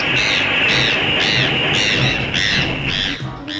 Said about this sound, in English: The black-billed magpie, Pika Hudsonia. Today's Talkin' Birds featured feathered friend.